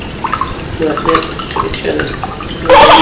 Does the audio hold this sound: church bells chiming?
no